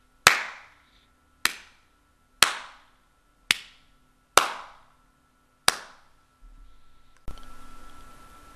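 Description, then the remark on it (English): Six sharp hand claps, spaced roughly a second apart, each leaving a brief decay, followed by a sudden burst of steady noise at the very end; a clap test recorded with an Audio-Technica AT2005 USB dynamic microphone. “I'll now do a clap test with the Audio-Technica mic.”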